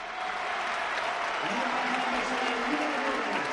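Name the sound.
stadium crowd ovation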